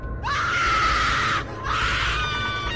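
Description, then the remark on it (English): A loud, high-pitched scream from a basement, held for over a second, a brief break, then a second sustained shriek, with no talking around it. “What's that scream?”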